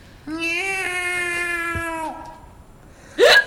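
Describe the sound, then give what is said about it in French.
A person imitates a cat with one long, drawn-out meow lasting nearly two seconds, fairly loud, followed after a pause by a short, sharp vocal burst. “Bon, je vais commencer par le chat.”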